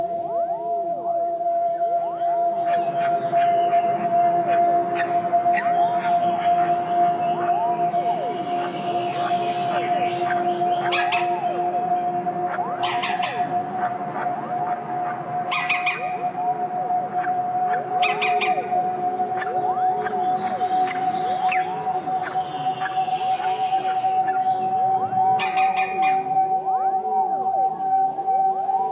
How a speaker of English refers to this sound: Green woodpecker, Picus viridis, at the nest.